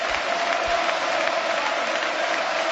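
crowd, stadium crowd ovation

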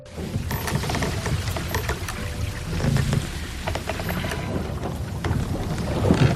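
nature, wind

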